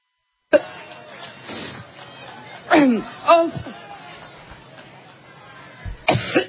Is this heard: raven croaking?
no